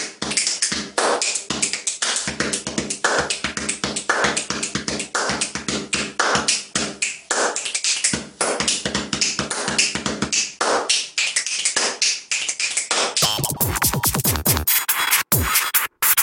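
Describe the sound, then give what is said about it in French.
A fast, busy beatbox-style rhythm, one performer tapping pens while a friend plays a ruler: dense sharp clicks and knocks, steady and loud, turning near the end into buzzier, twanging strikes. No voices. “Eh ben, il a trouvé un copain qui joue de la règle.”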